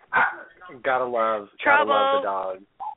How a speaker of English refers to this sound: And it's always, she's peaceful and quiet for like the 15, 30 minutes before show. But then right as the show starts, she's just out there barking up a storm. It's annoying.